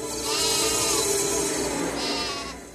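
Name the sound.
sheep bleating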